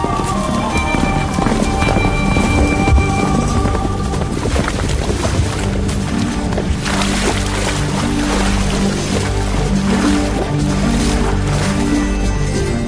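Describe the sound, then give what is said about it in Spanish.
Horses' hooves clip-clop steadily as counts and their party ride their horses in a procession, the rhythmic clatter half-buried in a constant, blustery rumble of wind and outdoor noise, with no one speaking. “Los condes de Borges y de Alcudiel montaron en sus magníficos caballos y todos juntos siguieron a sus hijos Beatriz y Alonso, que encabezaban la comitiva a bastante distancia.”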